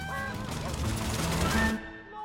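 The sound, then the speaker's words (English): A cockerel and chickens squawk and cackle frantically as they flee a combine harvester ploughing across a farmyard, a dense, noisy, loud burst over a rough clattering din, then the commotion cuts off abruptly near the end. “The cockerel and chickens flee, and the pigs float by.”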